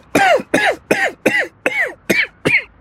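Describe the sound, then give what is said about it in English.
Seven harsh coughs in quick, evenly spaced succession, fairly loud, with short gaps between each, and no one talking. “You know, you should really see a doctor if that cough continues.”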